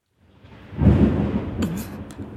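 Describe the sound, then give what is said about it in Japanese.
A deep, rolling rumble of thunder from rain clouds approaching from the western sky ahead of a storm swells up over a couple of seconds and keeps growling low, with a short burst of voice briefly rising over the rumble near the end. “ちょうど悪い時に西の空から雨雲が近づいているようだ。この様子だと、もうじきひどい嵐になるだろう”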